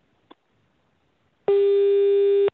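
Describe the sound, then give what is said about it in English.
A faint click, then a single loud electronic beep: a steady, low, buzzy tone lasting about a second before cutting off abruptly. No one speaks. “I'm hearing a beeping. Are you hearing it on your end?”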